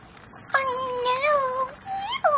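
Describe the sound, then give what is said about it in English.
A cat named Misty lets out a long, wavering meow, then after a brief pause begins a second, rising meow that is cut short at the end, while in a drain. “Meowed Misty and moved further back into the drain.”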